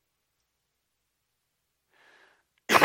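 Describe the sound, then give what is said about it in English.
A single loud, abrupt sneeze bursts out after near-silence, with a faint, brief intake of breath just before it. “I really need to get a cough button up here, don't I?”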